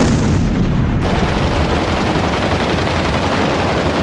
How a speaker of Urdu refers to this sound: اگلی صبح سے ہی بیروت شہر میں شدید بمباری شروع کی گئی.